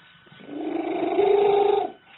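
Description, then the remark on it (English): A domestic cat in Great Britain, said to have the loudest purr in the world at 80 decibels, purring very loudly: a rough, rapidly pulsing rumble that swells and holds for about a second and a half before cutting off, with no talking. “I can tell you about the loudest purr in the world.”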